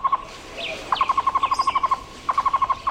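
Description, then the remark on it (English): A tocororo (Cuban trogon), the national bird of Cuba, calling in Cuba: quick, evenly spaced runs of mellow, low-pitched hoots repeated in bursts, with a few fainter, higher chirps from other birds mixed in. “This bird is the tocororo, the Cuban dragon, chosen as the national bird of Cuba.”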